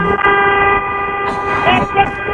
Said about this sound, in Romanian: Ursul doarme, doarme. Hai să-i dăm claxoane.